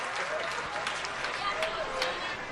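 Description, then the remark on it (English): A baseball crowd gives an ovation to home plate umpire Macon Hammond after a foul ball hit him, on a beautiful day with temperatures in the 60s: a steady, even roar of claps and voices at a moderate level throughout, with a few brief higher calls rising above it. “I think that cheer was for Macon Hammond, our umpire.”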